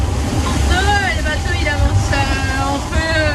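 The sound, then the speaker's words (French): Strong wind of around 25 to 30 knots roars and buffets the microphone on a sailboat while waves rush and slosh, a continuous loud blustery din with a voice talking over it. “Ok, il y a 2 heures, j'avais pas de vent, maintenant il y a 30.”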